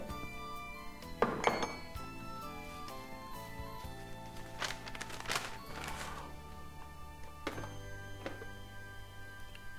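Ceramic cups and dishes clink and clatter during a coffee break, a few sharp knocks scattered among softer rattles, with a steady low hum underneath and no voices.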